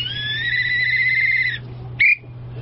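A clown whistles instead of speaking during a news interview: one long, steady, high note held for about a second and a half, then a brief, bright upward chirp, over a low constant hum.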